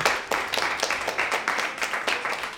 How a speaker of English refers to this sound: Thank you so much. Can we get another round of applause for these amazing improvisers?